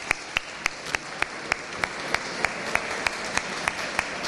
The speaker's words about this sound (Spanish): Así le hacemos un aplauso, que ha dicho que van a salir la Semana Santa.